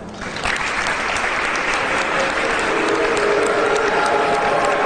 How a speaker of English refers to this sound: Demonstrators booed Governor Walker at a Christmas tree lighting ceremony. It's so weird to watch someone say Merry Christmas to a bunch of people booing him.